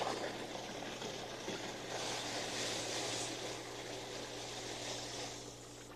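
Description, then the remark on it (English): A steady motor hums low and constant, pushing water around so it churns and swirls in a continuous rushing wash, fairly loud, with no voices, easing slightly at the end. “You see that motor pushes the water around and it whirls all around like this.”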